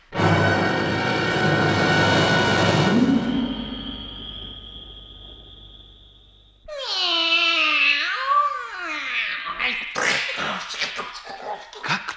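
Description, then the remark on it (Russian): A loud, noisy burst fades into a thin whistling tone, then a cat yowls with rising and falling meows as it pounces on a mouse running across the floor, followed by sharp scuffling bursts. “Кот увидал, что людоед обратился в мышь, которая забегала по полу. Он бросился на нее и съел.”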